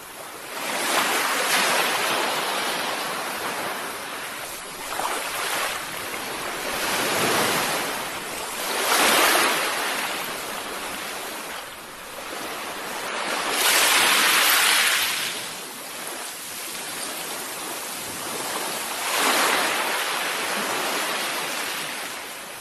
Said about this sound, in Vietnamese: Tâm hồn tôi như bồi hồi rung động mỗi khi nhìn những làn sóng mạnh mẽ đập dội lên những cồn đá đầy phúng thạch lâu năm này.